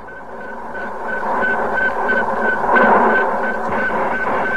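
A famous radio signal from space, about 50 years old: a rapid, steady train of short high-pitched beeps pulsing evenly, several per second, over a thick layer of hissing, crackling static.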